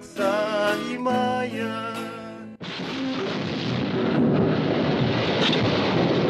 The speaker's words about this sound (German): Eine weithin sichtbare Fontäne und heftiger Wellengang folgen der Detonation. Solche Detonationen sind hier Alltag